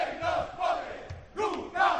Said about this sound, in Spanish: Pues efectivamente está siendo una concentración pacífica y en estos mismos instantes está siendo la foto. Se acaban de desnudar los bomberos para representar la precariedad que están viviendo. No sé si escucháis los gritos. Escuchamos.